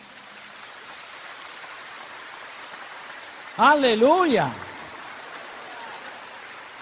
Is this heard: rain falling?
yes